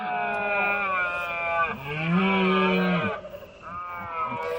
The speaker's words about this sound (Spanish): Es ese sonido que emite el ciervo macho cuando inicia los rituales de apareamiento. Bueno, este sonido que escuchamos es como sonaba en la Sierra de Cabañeros, en el Parque Nacional de Cabañeros, en los Montes de Toledo.